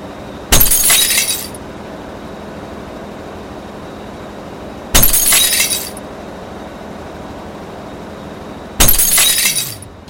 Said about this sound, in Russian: Вы думаете, это разбивается стекло? Вы правильно думаете. Но разбивается оно не само. Это дело рук человеческих.